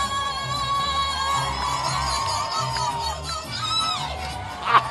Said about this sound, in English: Big finish. Big finish, big cheer from the crowd, and she won.